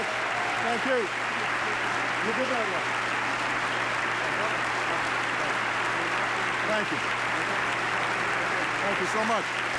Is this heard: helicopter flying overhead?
no